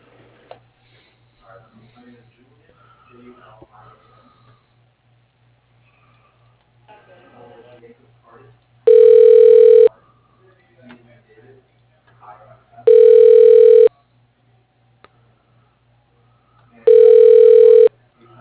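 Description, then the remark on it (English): Three loud, evenly spaced telephone rings, each about a second long, sound over a phone line as a call is transferred to an assistant's phone, following a stretch of faint murmuring and a steady low hum. “I can transfer you to his assistant's phone.”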